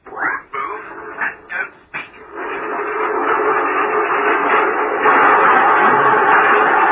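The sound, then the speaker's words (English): A few sharp knocks, then a steady, building rumble of train wheels clattering along rail track, loud, with no voices. “A train can't be going fast and slow at the same time.”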